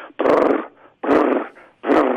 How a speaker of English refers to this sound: The rasp on the resonator sounds like a growling bear.